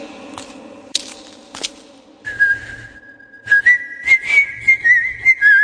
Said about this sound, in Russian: свистел, и его свист разносился по всей часовне.